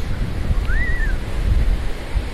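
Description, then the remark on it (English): Steady rushing surf from ocean waves on a sandy beach just after sunset, heard from the edge of the waves, a low, continuous wash with wind-like roar, and a brief high whistling call rising and falling once near the start. “are getting much closer to the ocean”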